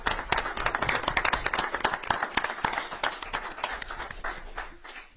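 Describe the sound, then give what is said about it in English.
A crowd applauds steadily, many hands clapping in a dense, continuous patter of sharp claps that holds for several seconds before easing slightly toward the end. “I think all that deserves a round of applause.”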